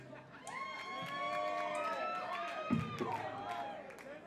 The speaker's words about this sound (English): You guys are going to be cheering a lot harder than that in about a year or two when I say that song.